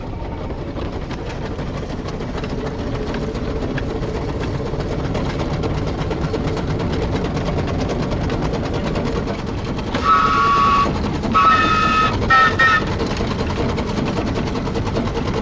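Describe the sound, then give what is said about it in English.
A steam locomotive's pump chugs in a fast, steady mechanical rhythm, pumping water to the boiler, with brief high tonal squeals or whistles breaking in near the end. No one speaks. “pumping water to the boiler.”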